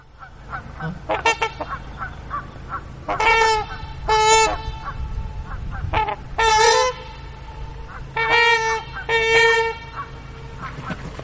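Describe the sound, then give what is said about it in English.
Loud, brassy honking calls from trumpeter swans, North America's largest waterfowl, ring out in repeated bursts, mixed with more muted Canada goose honks and chatter in the background, over a low steady hum. “I think we've got a little audio I'd like to play, hence the name, Trumpeter Swans.”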